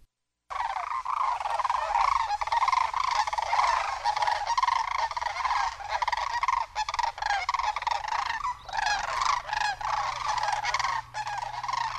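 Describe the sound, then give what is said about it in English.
Sandhill cranes giving flight calls, a continuous chorus of loud, rolling, trumpeting rattles from several birds overlapping for about twelve seconds, with no talking. “Sandhill cranes.”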